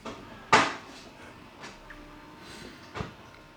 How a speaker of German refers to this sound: Meine Kaffeemaschine hat sich gerade gereinigt und schlafen gelegt, ausgeschaltet.